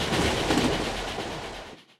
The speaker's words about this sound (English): In third class, the cheapest seats. This train is so noisy.